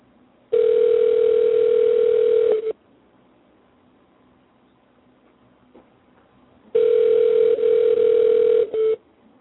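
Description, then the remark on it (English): Two long ringback tones of an outgoing phone call to Camille Shalrouse's manager, each about two seconds, separated by a roughly four-second silence; steady, mid-pitched and fairly loud, with no voices. “We have Camille Shalrouse's manager we're going to try to call here.”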